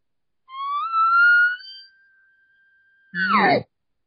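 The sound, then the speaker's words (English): An imitated elk location bugle: a tone glides upward into a long, thin high whistle, holds steady, then ends in a short, loud, raspy growl. No talking. “That's a perfect location bugle right there on its own.”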